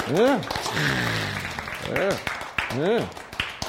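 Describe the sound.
A crowd applauds with a steady wash of clapping and a few sharper claps, while voices call out over it in rising-and-falling exclamations.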